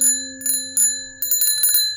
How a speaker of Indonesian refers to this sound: Tiba-tiba di luar terdengar suara bel sepeda sebanyak 3 kali.